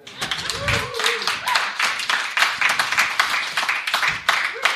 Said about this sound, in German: Und ich glaube, Applaus ist immer noch Corona-neutral.